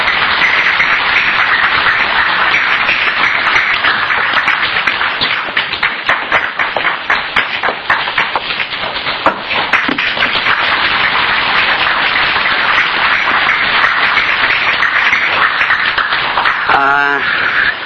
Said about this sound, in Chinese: 啊，即摆咱用上热烈的掌声来欢迎这个林志雄林博士来甲咱做一个第一套的这个演讲。